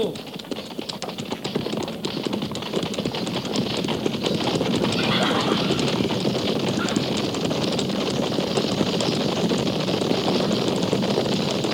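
Horses galloping hard, a dense, continuous drumming of many hoofbeats that stays loud and steady throughout, mixed with a rushing wash of wind noise.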